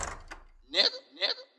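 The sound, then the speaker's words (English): Two loud knocks on a door, spaced about half a second apart, following a brief murmur of voice at the start. “Who's that knocking at my door?”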